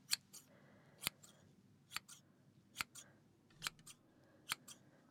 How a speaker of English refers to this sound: So we need to take your beard off, don't we? So as it's pretty long right now, again, I'm going to take off the bulk with the scissors, and then we'll just get it all nice one length.